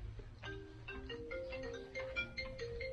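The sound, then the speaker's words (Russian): A phone rings with a short melodic ringtone, a series of steady electronic notes stepping up and down over a low background hum, fairly quiet and with no one talking. “Телефон. Да, уже не звонит.”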